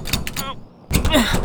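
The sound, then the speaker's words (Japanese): A closed door is pushed and tugged but won't open, giving off rattling thuds in two bursts with a short quiet gap between them. “扉が閉まってる。”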